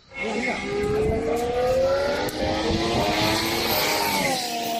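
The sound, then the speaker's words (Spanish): A Ferrari Formula 1 car engine screams at high revs, its buzzing whine climbing steadily in pitch and holding loud for several seconds, with a brief shift in tone near the end. “Ese Ferrari.”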